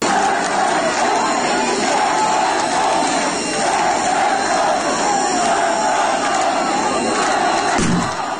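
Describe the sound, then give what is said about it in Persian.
A large crowd at the funeral of Kian Pirfalak, a 10-year-old boy, in Izeh roars and chants in a dense, continuous wall of raised voices, loud and sustained throughout, with shouting rising and falling but never dropping away until a brief dip near the end. “در ایزه مراسم خاکسپاری کیان پیرفلک، کودک 10 ساله‌ای که در داخل خودروی خانوادهش هدف تیراندازی مأموران جمهوری اسلامی قرار گرفت، با حضور گسترده مردم برگزار گشت.”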